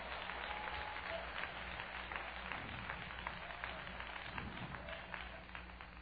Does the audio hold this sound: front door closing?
no